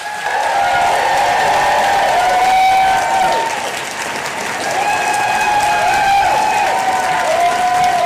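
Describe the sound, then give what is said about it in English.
Loud, sustained applause from a standing audience welcoming R. Eric Thomas, dense steady clapping with whoops and cheers rising above it, continuing for the full stretch with a brief dip midway. “So friends, please join me in applauding and stand, go crazy as we welcome my husband, the amazing R.”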